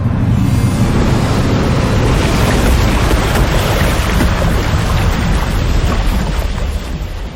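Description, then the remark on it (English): A loud, steady rush of crashing water, like a surging torrent or wave, roars for several seconds as the video game attack Water Apocalypse, used by Faux Hyper Aphrillion, before easing off slightly at the end. No voices. “Faux Hyper Aphrillion used Water Apocalypse.”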